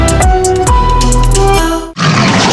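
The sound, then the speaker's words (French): A panther lets out a loud, rumbling roar with a gravelly growl in a Dulux Valentine paint advertisement marking the brand's 100 years, sustained for about two seconds before cutting off into a brief rush of noise. No one speaks. “Deluxe Valentine fait rugir sa panthère pour célébrer ses 100 ans de couleurs et de projets déco.”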